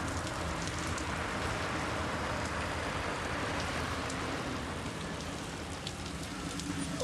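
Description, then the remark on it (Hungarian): Steady, heavy rain pelts a window in a dense, continuous hiss, water running down the glass, with scattered sharper drop taps standing out against the constant wash. No voices are heard. “Csapkod rendesen, a csoda vigye el az ablakon is, mi folyik a víz.”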